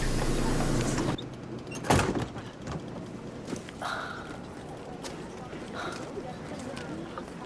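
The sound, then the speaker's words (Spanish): A steady rush of noise cuts off abruptly, then a door is opened with a single sharp clunk, followed by quiet room tone with faint, muffled voices. “¿Me abre la puerta?”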